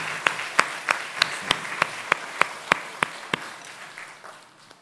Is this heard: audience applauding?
yes